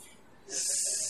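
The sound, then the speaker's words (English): A person imitates a snake with one steady, loud "sss" hiss that starts about halfway through and keeps going to the end, after a quiet, breathy opening. “you're a snake. What does a snake do?”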